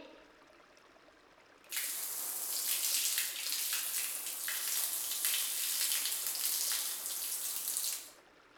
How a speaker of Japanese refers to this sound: よしっと、そろそろ洗い流していこっか。お湯かけるよ。もう一回。